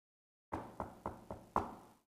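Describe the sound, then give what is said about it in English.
Five firm knocks on a wooden door in a steady, even rhythm, the last one a bit louder, with nothing else around them. “Could it be tonight, as an individual, the Lord's knocking on your door?”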